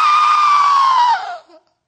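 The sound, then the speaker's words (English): One loud, sustained scream-like wail from a single voice imitating people screaming, holding a high pitch for over a second before sliding down and trailing off into silence. “And you hear people screaming, ah, ah.”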